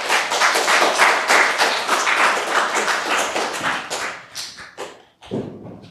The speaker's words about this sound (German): Dann aber erstmal vielleicht einen Applaus für die beiden.